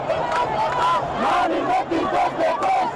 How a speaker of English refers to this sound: Today, when news of Bashir's arrest spread, celebrations roared across the capital, Khartoum.